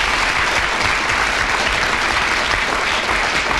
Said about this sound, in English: so I'm sure you want to applaud her for that.